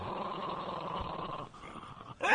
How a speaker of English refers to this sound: When you go shopping, listen, you'll hear the Geico commercials in the supermarket, and they play that. Listen to this talking dog.